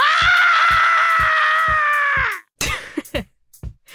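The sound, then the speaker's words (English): A person lets out a loud, sustained, high-pitched shriek lasting over two seconds that drops off at the end, followed by a few ragged, breathy gasps; it's a vocal reenactment of a terrified scream given when a huge rat ran through a kitchen. “emitted the longest, loudest, and most terror-filled shriek I've ever heard.”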